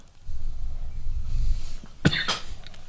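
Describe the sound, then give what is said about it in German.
A single sharp cough bursts out over a low rumbling background, brief and loud, with a faint follow-up breathy sound just after. “Genau, deswegen hustest du.”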